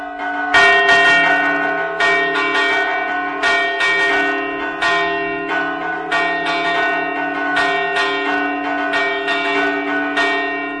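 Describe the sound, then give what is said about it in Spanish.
Church bells ring out loud in a storm toll, strokes striking in a rapid, steady rhythm with rich overlapping resonance that hangs between hits, no voices present. “Este toque se usaba contra las tormentas.”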